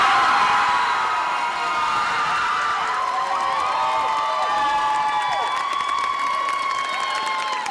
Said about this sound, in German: Viel Applaus gab es am Abend in London.